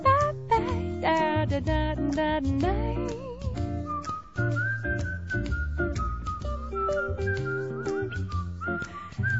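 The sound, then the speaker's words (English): A person whistles a clear, bright melody with held notes and quick runs, loud, backed by an instrumental musical accompaniment throughout. “Nice whistling”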